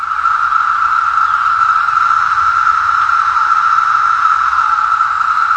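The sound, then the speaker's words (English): A loud, unbroken chorus of male periodical cicadas, vibrating two drum-like membranes, drones at a steady mid-high pitch in a series of buzzes and ticks, the massed buzzing blending into a dense, hissing wall of sound with no voices. “The sound is an overwhelming, even annoying, series of buzzes and ticks.”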